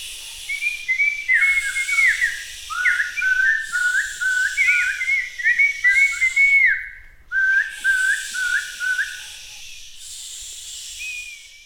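Birds sing on a farm with many large trees in a very gentle breeze, a continuous run of bright, warbling chirps that break off briefly partway through, then resume, all over a soft, steady airy hiss. No one speaks.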